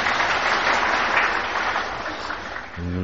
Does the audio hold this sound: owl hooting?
no